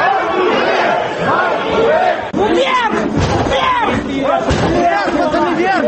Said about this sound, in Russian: После того, как на сессию не пустили депутата Верховной Рады, главу Одесской областной организации «Свободы» Павла Кириленко, националисты снесли металлическое ограждение и начали выбивать двери.